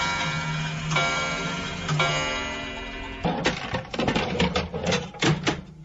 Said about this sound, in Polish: Więc jak sobie pomyślę, ile razy ten zegar już tykał, to naprawdę człowiek pokory nabiera do czasu.